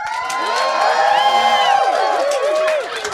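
A studio audience at Dragon Con, at a live taping of the show Let's Get Pissed with the FDO, cheers and whoops loudly, many overlapping voices rising and falling over a wash of clapping, sustained for about three seconds before easing slightly.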